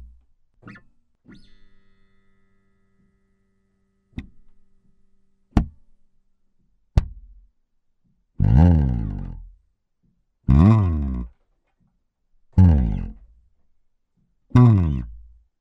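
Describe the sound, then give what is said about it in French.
Synthesizer sound effects from a virtual instrument's 7th and 8th octaves, with no talking: a few sharp clicks and percussive zaps, then four loud, evenly spaced sweeping tones, each about a second long with swooping, warbling pitch. “Il reste quand même quelques petits effets qui se trouvent au niveau du 7e, 8e octave. Ça peut donner ceci.”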